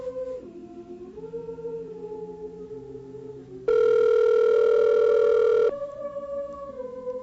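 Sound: unanswered phone call ringing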